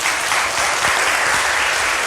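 Steady audience applause introducing an astronomy presentation, a dense wash of many hands clapping at an even, loud level throughout, with no voices standing out above it.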